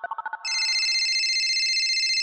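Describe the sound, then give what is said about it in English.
A phone call sound: a quick run of five dialing beeps, then a steady, bright electronic ringtone warbling continuously, loud and clear with no voices. “You guys, it's time to phone a friend.”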